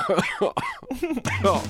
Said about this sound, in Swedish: Jag vet inte, jag blir inte kvitt den här jävla hosthelvetets pisset.